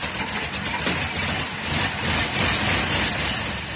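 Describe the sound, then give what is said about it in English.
The engine of the Silver Streak, an old Model T car painted silver, runs steadily, a rough, rumbling idle with a low chugging pulse under a constant mechanical hiss, and no one speaking. “That's right, the car still runs.”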